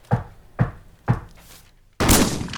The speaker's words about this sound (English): He's thrown back against the wall from the blast of the shotgun.